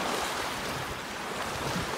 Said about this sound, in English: And it's just listening to these sounds, these utterly non-human sounds, all the moods of the sea and all the sounds.